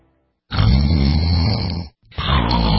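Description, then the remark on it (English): Two loud, rasping snores, the first long and drawn out, the second starting after a brief pause and cut short. No one speaks. “Is this what your bedroom sounds like at night?”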